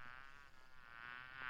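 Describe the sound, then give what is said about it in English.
A bee buzzes steadily, one continuous droning hum with no pauses, swelling slightly louder toward the end. No voices or other sounds accompany it. “Busy as a bee.”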